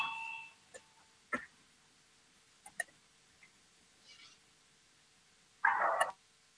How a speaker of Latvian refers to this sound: Lūdzu zvanu, balsosim par 145. Atbildīgās komisijas priekšlikumu. Lūdzu balsosim.